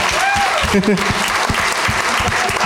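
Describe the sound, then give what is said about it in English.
An audience at a comedy show in Indiana breaks into steady applause for a vaccinated audience member wearing a mask, a dense wash of overlapping claps at full volume, with a brief voice or cheer rising over it early on. “Let's applaud this guy, everybody.”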